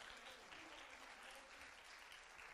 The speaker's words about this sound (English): All right, let's give these guys a hand clap. Thank you, guys. Thank you, everyone.